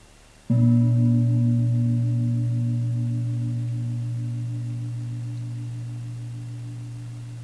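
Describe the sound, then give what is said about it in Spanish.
A single gong stroke with a sudden onset, then a deep, humming resonance that rings on steadily and fades only slightly over several seconds. No voices are heard. The gong is struck during a guided breathing exercise, signalling the point to stop counting and follow the exhalation. “Próximo sonido del gong, dejaremos de contar y simplemente acompañaremos el proceso de la exhalación.”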